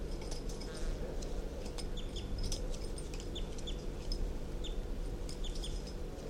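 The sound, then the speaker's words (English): Calls of crossbill bird 327, recorded at 3:34 p.m. on July 28: short high chips repeated irregularly throughout, sitting over a steady low rumbling background noise. No one speaks. “And there's nothing but calls of 327 on the side.”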